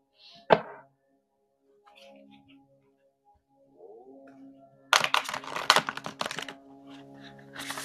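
A brand-new deck of cards being shuffled for an intuitive card reading: one sharp snap early on, then a dense, rapid burst of crisp papery flutters and clicks, with faint tonal sounds humming in the background.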